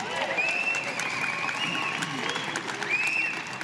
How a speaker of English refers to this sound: Ladies and gentlemen, it is time for your elected officials to be sworn into office. You can clap for that.